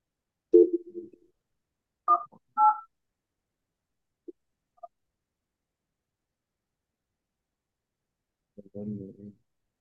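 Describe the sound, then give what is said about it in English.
A couple of short, clear telephone dialing beeps from a call being placed, each a steady two-tone chirp, sounding in quick succession, with brief murmured voice sounds before and after and near-silence between. “Give him a call.”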